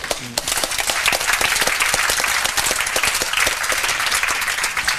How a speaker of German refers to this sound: Erstmal Dank an euch alle, dass ihr da wart und dieses Easter Hack mitgemacht habt und ich hoffe, ihr hattet alle Spaß. Großen Applaus erstmal an euch alle.